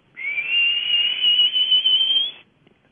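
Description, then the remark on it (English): A single human whistle imitating the call of a grayish, mottled bird with a gross beak said to sound like a red-winged blackbird: one sustained, high-pitched note that glides slowly upward for about two seconds, fairly loud and heard alone without any talking. “And it makes the same sound as a red-winged blackbird.”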